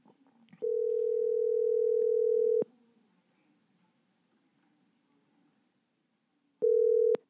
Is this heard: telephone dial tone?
yes